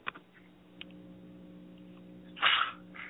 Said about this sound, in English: Yep, sorry, I had to sneeze a little bit there, brother. I apologize.